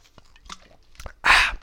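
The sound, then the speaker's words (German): Someone drinks a carbonated apple spritzer: a few soft clicks and sips, then a loud, bright fizzing hiss for about a third of a second. No one speaks. “So, kann ich mal jetzt mal was trinken? Hier habt ihr nochmal, schon wieder eine Apfelschorle.”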